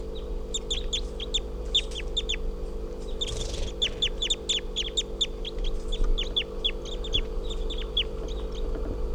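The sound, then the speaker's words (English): Crossbill calls from a juvenile, probably a male with a lot of yellow and a right-crossing bill, captured just after recording: a steady stream of short, sharp, high 'kip' notes repeated rapidly throughout, over a constant low hum, with no talking. “Probably a juvenile male with a lot of yellow and a right crossing bill.”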